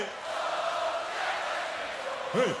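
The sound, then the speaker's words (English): A huge festival crowd at Glastonbury on June 27, 2017 chants "Oh, Jeremy Corbyn" in unison, a dense, steady roar of many voices, with one voice briefly rising above the mass near the end. “This is after Labour has just lost that year's general election and the British rapper … is on stage, but the crowd has taken over.”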